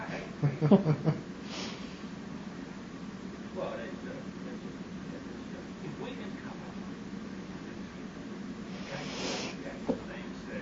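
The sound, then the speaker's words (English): A brief, sharp sneeze bursts out as a hissy puff of air, preceded by a similar breathy burst, over a low background of murmuring voices and sniffing breaths. “Try not to sneeze too loudly into the recorder.”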